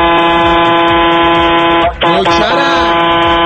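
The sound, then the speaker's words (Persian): A loud, sustained trailer truck air horn blares with a rich harmonic tone, briefly breaking off near the middle before sounding again, dominant throughout. “بابا دمت گرم، میخوام تو تا بوق تریلی برات بزنم”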